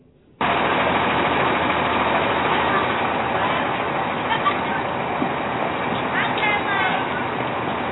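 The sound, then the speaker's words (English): A school bus engine idles with a steady rumble that holds throughout, while faint voices of elementary and middle school children, exiting the bus unsupervised by an adult, chatter in the background. “Elementary and middle school children exiting a school bus, totally unsupervised by an adult.”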